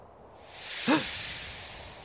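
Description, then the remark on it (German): A snake's long, airy hiss swells up over the first second, then tapers slowly away, with a brief low rising-and-falling tone at its peak. No one speaks. “Habt ihr das gehört? Bleibt stehen. Ganz ruhig. Da drüben. Eine Schlange.”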